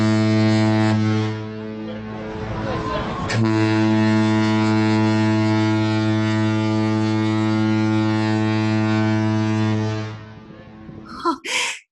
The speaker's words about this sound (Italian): Quando salpa il piroscafo? Tra pochi secondi, signora Brewster, sentirete il fischio che annuncia la partenza.